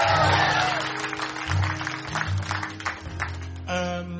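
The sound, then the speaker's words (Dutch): An audience applauds and cheers for a performer on stage in a dense, steady crackle of clapping, with sustained low musical tones humming underneath and a brief tonal swell near the end. “En geef hem een heel groot applaus.”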